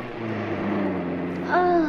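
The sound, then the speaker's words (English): A car engine hums steadily, its low drone rising slightly in pitch as the car speeds up on an open road after passing a de-restriction sign, with a brief voice-like tone near the end. “You can speed it up now if you want.”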